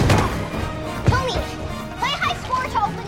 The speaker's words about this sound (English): A warrior swings his axe towards Nora. She ducks and shoves him into a painting on the wall.